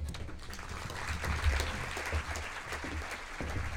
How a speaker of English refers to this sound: Let's give her another round of applause for the information that she's presented to us this morning.